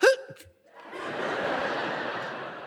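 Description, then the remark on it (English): A person imitates a loud sneeze with a short voiced 'ah' and a brief pause, then a long, forceful, breathy burst of noise lasting about two seconds. “It's like folks who sneeze.”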